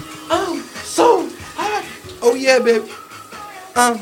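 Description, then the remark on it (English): Steady rushing water of a running shower fills the background while a voice sings K-pop in short, bright bursts, with brief pauses between phrases. “I even started performing K-pop concerts in my shower.”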